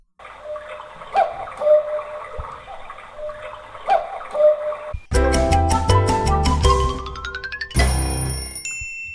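A short produced intro jingle for the quiz segment "Kuckuckskind": a muffled ticking, clock-like pattern for about five seconds, then a bright burst of music with a quickly rising run of notes and chiming tones ending on a held chord.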